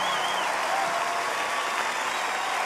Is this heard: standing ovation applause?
yes